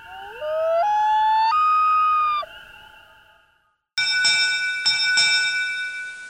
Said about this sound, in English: And we close with one more from Mr. Elliott, the wail of a common loon, which some lucky Christmas bird counter in Virginia might hear on a December night.